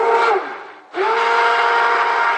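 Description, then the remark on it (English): A stick blender mixing soap batter after lye is added whirs loudly with a steady, high motor whine, briefly dipping as it pauses, then spinning back up and running on. No one speaks. “And again, you don't have to have a stick blender, but it sure helps.”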